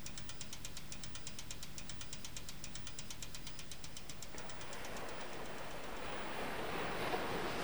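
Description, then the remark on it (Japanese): A rapid, even ticking rattle of a bicycle's rear wheel spinning over a low rumble, then ocean waves on a sandy beach wash in as a broad, steady roar filling the second half, in summer sunshine. No voices are heard. “海はいいな。”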